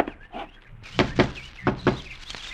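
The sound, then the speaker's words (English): Sharp knocks on a door, two quick pairs of raps with a softer fifth, loud and hollow over faint bird chirping in the background. “Fred, get the door.”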